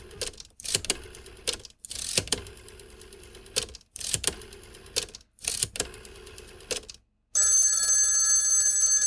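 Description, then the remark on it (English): An old-style telephone bell rings loudly in four rattling bursts separated by short pauses, followed by a steady, sustained electronic tone. No voices are heard. “So here we go. Phone call.”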